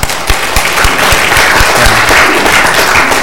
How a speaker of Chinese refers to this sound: 那我们再一次的谢谢张宝华牧师啊，来到我们当中分享神的话语，我们掌声谢谢他。